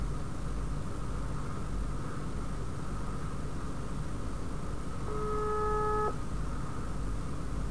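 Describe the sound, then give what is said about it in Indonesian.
A phone ringing tone of a call to a teacher sounds once, a single steady electronic burst lasting about a second, over a constant low rumble and hiss; nobody speaks. “Telepon bu guru.”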